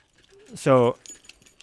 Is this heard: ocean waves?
no